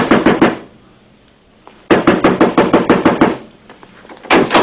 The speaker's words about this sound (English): Why didn't you answer? I've been knocking for 5 minutes.